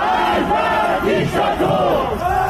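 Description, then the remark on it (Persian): A large crowd of protesters in Tehran, Iran, during the Aban 1398 protests chants together in loud, rhythmic waves, many voices rising and falling in unison, with dense shouting filling the background continuously. “مناطق مختلف تهران پایتخت شاهد حضور گسترده معترضان بود، از جمله شرق غرب، پل گیشا، پونک، صادقیه و اکباتان.”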